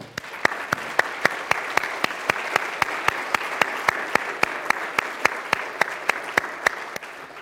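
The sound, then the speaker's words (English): A large crowd applauds the graduates steadily, a dense wash of clapping with sharper individual claps popping out in a fairly even rhythm, sustained at constant loudness throughout with no talking. “How about we give our graduates another round of applause?”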